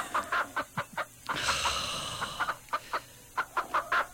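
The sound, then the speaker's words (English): Chickens cluck in quick, repeated bursts, with a longer squawking call in the middle; clear, with no one speaking. “It's the bloody chickens.”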